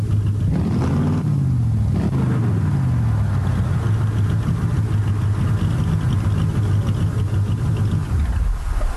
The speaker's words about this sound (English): Just then, by weird coincidence, an older sports car with California plates showed up